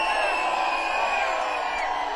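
crowd cheering and whooping

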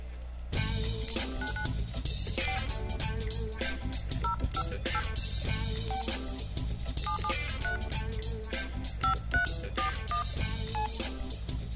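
telephone keypad dialing tones

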